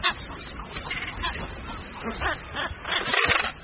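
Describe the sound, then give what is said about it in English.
A dense, continuous din of thousands of seabirds, including frigate birds, red-footed boobies and Caspian terns, calling at once as they jostle for space in the centre of Rain Island on the reef, with harsh overlapping honks and squawks rising and falling, loud with no gaps between cries. “It's home to thousands of birds, and in the centre of the island, they jostle for the best available space.”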